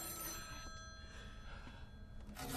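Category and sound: signal or alarm, payphone ringing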